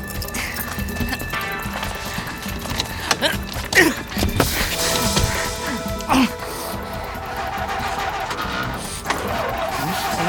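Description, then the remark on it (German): A car roars along at speed in a dense, busy chase scene, with engine noise, skids and brief impacts, plus a few sharp bangs. The action stays loud and continuous throughout. “Sie springen in ihren Wagen. Sie geben nicht auf.”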